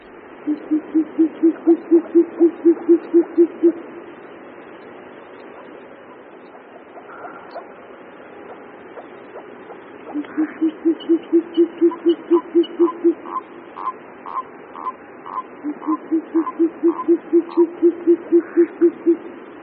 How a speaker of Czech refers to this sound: Hlas tokajícího samce sovy pustovky není u nás právě běžný zjev. Kalous pustovka, jak je zoologický název této sovy, je světlá sova menší velikosti s krátkými pernatými oušky.